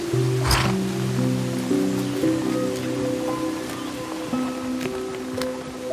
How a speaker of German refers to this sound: Die Pferde stören sich gar nicht an dem lauten Rauschen des Wassers. Tiefenentspannt trotten sie mit euch an dem Wasserfall vorbei.